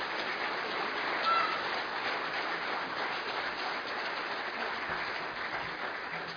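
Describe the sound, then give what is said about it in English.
Steady, dense applause from a crowd, a round of applause for costumed performers, fills the whole stretch, a continuous wash of clapping at even volume with no voices standing out. “So I think we can give them all a round of applause, first of all.”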